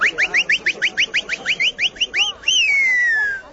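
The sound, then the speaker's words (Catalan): A shepherd's whistled call to sheep: a rapid run of about a dozen short, rising high-pitched whistle notes, then one long, loud whistle that slowly glides downward. No talking. “lliçó de comunicació no verbal amb aquest pastor que xiulant s'entén amb tot el món.”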